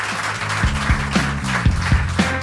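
Steady applause from an audience fills the space, a dense patter of many hands clapping, with a few heavier rhythmic claps standing out over a low background hum.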